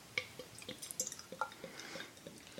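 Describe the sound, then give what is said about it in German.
A freshly opened, slightly dark, light brown beer pours into a glass, a steady run of bubbly glugs and splashy drips with bright clinking tones, no one speaking. “so, ich gieße mal ein. Gieß ein.”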